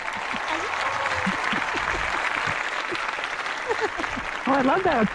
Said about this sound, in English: Oh, I love that applause. That's so nice. Well, you know what? You know, it's really hard to contain them when they're in the studio.